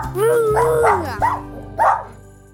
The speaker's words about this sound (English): You're a good dog, you're a good dog, you're a good dog.